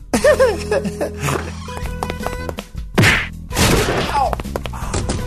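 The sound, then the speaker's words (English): A sharp, meaty punch impact from a woman lands over a busy bed of tonal sound effects, followed by more scuffling whacks; fairly loud, like a staged fight sound effect. “She punches like a guy too, I'm just saying.”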